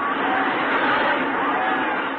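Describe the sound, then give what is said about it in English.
A packed crowd of spectators in the stands at the horse races at Hialeah roars and shouts, a dense, unbroken wall of many voices that stays loud and steady throughout, with no single speaker standing out. “The stands are filled with madly screaming spectators. The noise of the crowd is overwhelming.”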